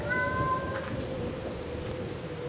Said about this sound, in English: And then she gave her familiar meow.